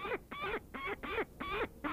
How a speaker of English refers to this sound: The peregrine falcon is an easy bird to attract attention because it is the fastest, because it is beautiful, and because of its predatory nature.